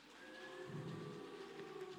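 A crowd on a balcony and in a soundbox, conducted to make a storm sound effect, imitates wind with their voices, making a steady, continuous whooshing rush laced with thin whistling tones that holds at an even level for the whole two seconds.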